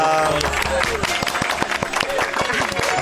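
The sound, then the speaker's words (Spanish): Several hosts clap together in a dense, lively burst of applause lasting a few seconds, loud, with voices chattering and whooping underneath. “Ahora puedes hacer así también con los deditos para aplaudir.”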